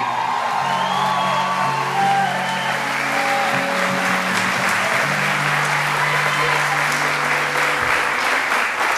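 An audience applauds God during a church service in steady, dense clapping that lasts the whole stretch, with scattered whoops and raised voices ringing out over the loud wash of hands.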